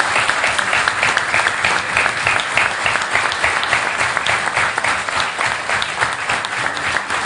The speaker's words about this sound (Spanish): Lo primero es, todos sabemos que quien nos va a suceder es una gran mujer y una gran militante del Partido Nacional, como es Beatriz Argimón, que yo pido un fuerte aplauso porque es una gran decisión.